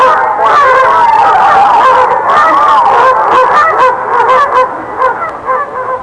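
A duck quacks loudly and continuously, a dense stream of nasal, overlapping calls that carry on for several seconds with no talking.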